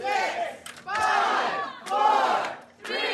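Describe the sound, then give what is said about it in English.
A large crowd shouts a countdown to zero in unison while a player frantically shoots a hockey puck, each loud chanted number arriving as a separate burst with brief gaps between, in a steady rhythm. “As the crowd counts down to zero, he frantically shoots the puck with disappointing results.”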